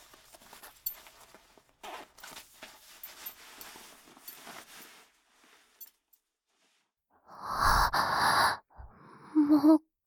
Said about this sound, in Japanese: もう時間がないのでチャック下ろしますね。